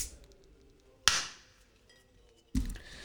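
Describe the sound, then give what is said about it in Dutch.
A beer bottle cap is pried off with the back of a lighter, as no bottle opener is at hand: a sharp metallic clink that rings briefly, then after a short pause a second, duller pop as the cap comes free and flies off. “Als een echte biersommelier maakt hij dit open. Met de achterkant van zijn aansteker.”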